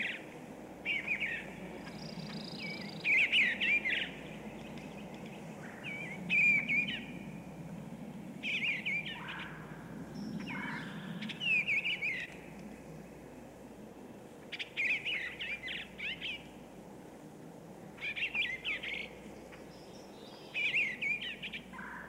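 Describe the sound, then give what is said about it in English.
A bluebird, a thrush, sings short, soft warbling phrases again and again, each a brief burst separated by pauses, over a low, steady outdoor rumble. “The bluebird is a fairly common thrush that stays mostly in open rural areas.”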